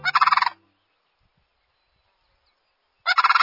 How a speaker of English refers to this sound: It's late winter, and cranes are calling loudly to one another. 15 species of cranes are spread across the world, everywhere but Antarctica and South America.